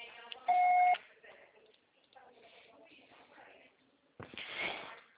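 A single loud, steady voicemail beep lasting about half a second, followed by low, muffled talking and then a sudden rough burst of noise at the end.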